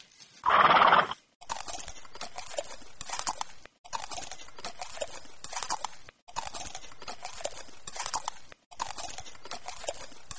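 A horse lets out a loud, sharp whinny, then its hooves clip-clop steadily in a quick, even rhythm across several stretches, fairly loud, with no voices.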